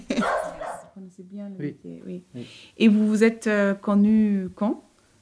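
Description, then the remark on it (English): A family's dog barks in a string of short yips, then lets out longer, louder whining barks, with people's voices mixed in around the sounds. “And their dog. Their dog. How could I forget?”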